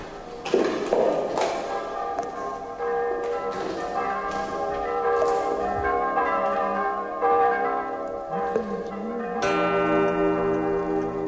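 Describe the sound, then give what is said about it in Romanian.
Church bells ring for a doctoral degree conferral ceremony, in a dense, overlapping peal, their strikes blending into a sustained, shimmering wash of tones that carries on steadily with no voices present. “De ce bat clopotele? E vreo înmormântare?”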